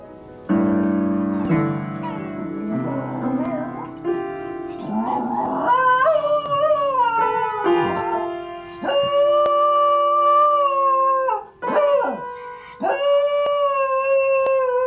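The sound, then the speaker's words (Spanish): A dog howls loudly in long, wavering, pitch-sliding notes, almost like singing, with a few brief breaks between drawn-out tones and no talking. “Este es uno de esos perritos que hablábamos la otra vez, que están en los videos, que se suben y aporrean el piano y cantan.”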